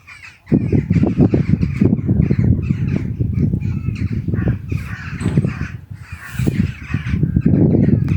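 bird, birds chirping at dawn

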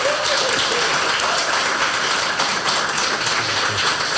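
crowd, audience applause

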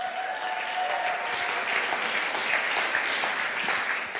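crowd, audience clapping

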